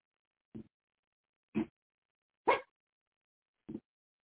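A dog named Tipper barks four times, short sharp woofs spaced about a second apart, the third bark the loudest and highest, with silence in between and no one talking.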